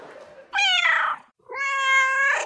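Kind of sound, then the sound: animal, cat meowing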